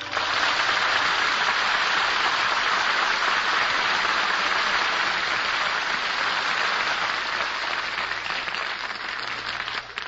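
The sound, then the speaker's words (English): Sustained audience applause fills the whole stretch, a dense, steady wash of many hands clapping at an even, fairly loud level, with no voices standing out above it. “Deserve that applause”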